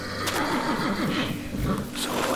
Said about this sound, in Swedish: Jag var på väg till dig, men din häst lät orolig, så jag skulle se vad det var med honom.